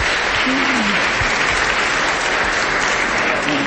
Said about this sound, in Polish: No tak, można klaskać. Można klaskać.